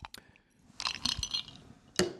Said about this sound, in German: Ich höre deine Eiswürfel klappern und nehme das als Überleitung zum nächsten Thema.